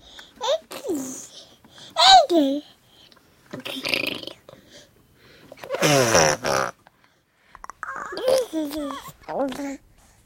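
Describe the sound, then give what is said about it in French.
A baby babbles and coos in short wordless bursts with rising and falling pitch, fairly loud, separated by brief pauses, with a few breathy squeals and sputtering sounds mixed in. “Et finalement, la prosodie dans la langue parlée, finalement, est en totale continuité avec la prosodie de ce que fait le bébé sans les mots.”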